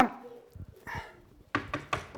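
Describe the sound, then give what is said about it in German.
Someone knocks on a door: a few soft, hesitant raps, a short pause, then three louder, sharper knocks in quick succession, with no talking. “Klopfen oder nicht klopfen?”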